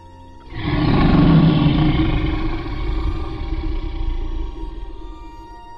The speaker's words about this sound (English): The dragon, as large as the Empire State Building now, surely, roars out what Jen expects is fire.